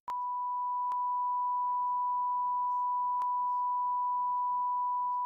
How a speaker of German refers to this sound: Also, ja, der ist nicht jugendfrei. Dann müssen wir den piepen. Aber sag mal hier, in unserer Runde, dann piepsen wir den raus.